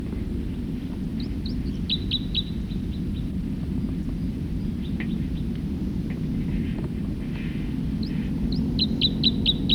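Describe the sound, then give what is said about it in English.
A songbird sings two short phrases of quick, high, repeated chirping notes, separated by a pause, over a constant low rumble of background noise. “Start recording another songster.”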